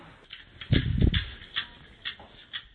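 Bin lids being banged together, opening with a loud clattering flurry and followed by three or four sharper single knocks at fairly even intervals, with no voices.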